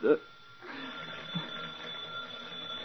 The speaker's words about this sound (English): The phone. Who would... Shall I answer it?